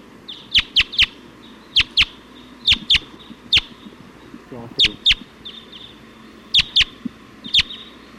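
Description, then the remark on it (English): A flock of about 20 wild Type 2 birds coming in and calling, with sharp, high chirps bursting in quick pairs and clusters over a steady hiss of background noise. “going at 279 and wild birds come in.”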